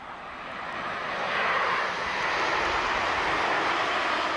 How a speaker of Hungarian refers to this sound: A reptér közelében több mint 2000-en hallgatják ezt nap mint nap. Tényleg ilyen sűrűn járnak a repülőt, és állandóan 5-10 percenként, és éjszaka is mennek, állandóan mennek